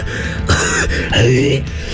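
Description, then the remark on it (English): A person makes two loud hacking coughs with throaty, voiced gagging, as if retching up a hairball, with no speech around them. “I mean, honestly, it's the longest you've gone without coughing up a hairball.”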